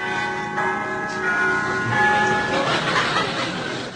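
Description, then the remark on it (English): The doorbell of a palatial penthouse chimes with ringing, sustained bell tones that linger for a couple of seconds, fairly loud, before fading into a noisier wash as faint laughter rises. “I'm just going to ring the bell.”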